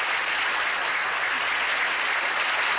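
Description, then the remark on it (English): Dense, steady canned studio audience applause from a large crowd fills the whole clip, a continuous wash of clapping with a slightly muffled, old-recording quality and no voices. “Maybe he wrote applause.”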